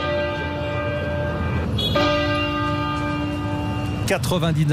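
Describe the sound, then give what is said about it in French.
Heavy bells of Westminster Cathedral toll loudly, part of 99 tolls in tribute to Prince Philip, their deep ringing tones hanging in the air as fresh strokes land every couple of seconds, with a faint murmur of background noise underneath. “99 sons de cloche, vous l'entendez, la cathédrale de Westminster a rendu hommage au prince Philippe, décédé hier à l'âge justement de 99 ans.”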